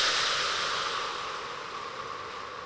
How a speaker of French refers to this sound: Prends une profonde inspiration pour te redynamiser. Souffle fortement.